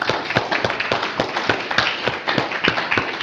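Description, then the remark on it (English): A crowd claps steadily, with sharp, closely spaced hand claps forming a dense, bright wash of applause that stays loud and even throughout, without voices. “So if you ever want to stay awake, or you ever want to keep your audience awake, just have them clap a lot.”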